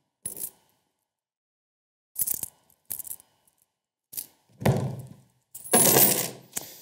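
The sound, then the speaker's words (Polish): Coins from a collection, including coins from Mexico and Singapore and a 20-kopeck coin, clatter and clink in several separate bursts, sharp metallic rattles growing louder and denser toward the end as more coins tumble together. “Wybrałem ze swoich zasobów różne najciekawsze monety.”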